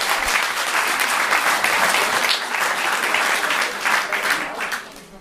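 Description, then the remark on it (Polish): An audience at a municipal Women's Day celebration claps for a performing artist who has just become a father, a dense, sustained wash of many hands that stays loud throughout before easing off slightly at the end, with no voices standing out. “zwłaszcza dla artysty, dzisiaj świętuje z nami Gminny Dzień Kobiet, ale od dwóch dni świętuje również jakoby Dzień Ojca, dlatego że szczęśliwy jak pewnie z pewnością Państwo wiedzą, został tatą po raz pierwszy, więc można zasłużone oklaski już teraz.”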